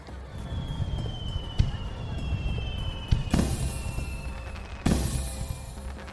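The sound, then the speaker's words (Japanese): A firework whistles as it climbs with a thin, slowly falling tone, then two sharp booming bursts follow a moment apart, each trailing off in a crackly rush over a low rumbling background. It is a 'sun firework' (taiyō hanabi), as bright as daytime. “あ、花火が上がった。”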